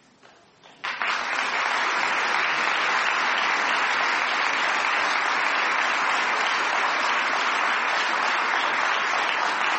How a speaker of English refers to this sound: And I wish they could be here to hear your applause.